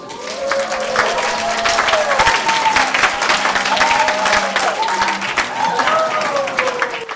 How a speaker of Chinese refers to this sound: 以上大家听到的掌声和叫好声是从纽约联合国总部举行的联合国中文之夜活动现场进行文艺表演时传来的。